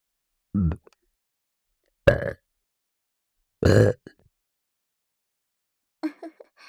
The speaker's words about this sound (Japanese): 次は連続ゲップいきます。3回連続で出します。せーの。